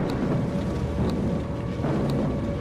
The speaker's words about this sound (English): The boy is on his way to his grandmother's house for lunch when he hears the sounds. The air raid sirens blaring, the whirring and clanging of planes in the sky, and the crashing of bombs in the distance.